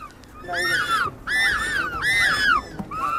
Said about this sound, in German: Wenn es so klingt, dann knurren die Mägen bei den Baby-Pinguinen. Sie können noch nicht schwimmen und haben noch ganz fluffige, bauschige Federn, die auch sie schon warm halten.